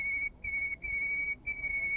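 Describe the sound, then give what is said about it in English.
An isolation-reared male white-crowned sparrow's song, reared apart from the song of its own kind and lacking the local dialect markers: long, thin, steady whistled tones on one high pitch, broken by a few brief gaps, with no trills or varied phrases. “This is an example of the kind of song that a male white-crowned sparrow would develop if you rear it in isolation from the song of its own kind.”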